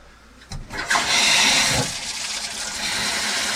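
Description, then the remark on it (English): A bathtub tap opens with a brief knock, then water gushes out in a loud, steady rush, continuing without pause to the end. “All right, turn the water on, bro.”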